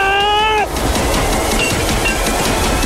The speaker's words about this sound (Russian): Это реально едет поезд.